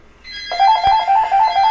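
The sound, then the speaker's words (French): A doorbell rings during a live broadcast on Radio Fiat Lux as a pharmacy delivery arrives. It is a loud electronic trill, rapidly alternating between two close mid-high tones in a steady repeating pattern, preceded by a faint hum and no voices. “Attendez un petit peu, je vais répondre à la porte.”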